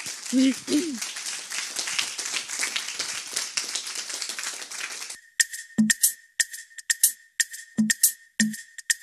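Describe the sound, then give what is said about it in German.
An audience bursts into dense, loud applause with a short whoop near the start, then after about five seconds the clapping thins to scattered individual claps over a steady high-pitched tone. “Bravo nochmal an alle und großen Applaus.”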